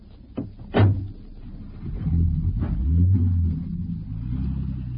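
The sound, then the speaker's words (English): Two quick car door slams, then a low engine rumble builds and holds steady as a car pulls away and drives off to chase another car, with no talking. “Can you overtake it? I can try, sir.”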